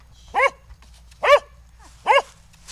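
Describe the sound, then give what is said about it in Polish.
Three sharp dog barks, evenly spaced about a second apart, loud in a quiet, warm indoor room at a water intake works in Aleksandrów, with a low steady hum underneath. “W pracy nigdy nie spotkałem się, żeby miał pieska w pomieszczeniu, ale na pewno to będzie miłe przeżycie i zarówno dla mnie, jak i dla tego psa.”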